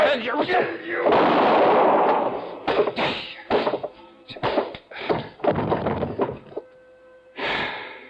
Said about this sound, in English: I knew the sound of the gunshot would bring the others back to the cabin.